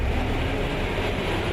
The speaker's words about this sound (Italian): Traffico, traffico, traffico. Bollettini di guerra a volte, spesso quotidiani, una consuetudine quasi martellante, ore ed ore passati fermi o quasi nel proprio abitacolo